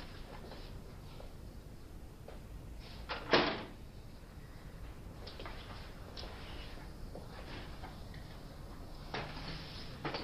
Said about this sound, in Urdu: کمرے کا دروازہ بند کر دو.